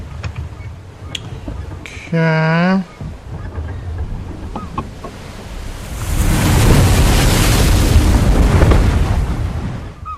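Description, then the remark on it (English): A brief, buzzy horn-like tone sounds, then a gigantic wave surges in amid strong wind with a loud, broad roar that builds, crashes and slowly recedes, rolling toward a boat. “By swiping one finger left or right, guide our boat in the opposite direction from where you hear the wave coming to you.”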